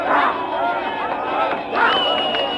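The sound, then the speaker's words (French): An enthusiastic crowd of Black and white people in the streets of Johannesburg, celebrating Nelson Mandela becoming president, roars and cheers continuously, a dense wash of many voices with excited shouts swelling and rising in pitch over the babble. “Les rues de Johannesburg, à l'ordinaire si vide, réchauffées par une foule enthousiaste, noirs et blancs mélangés.”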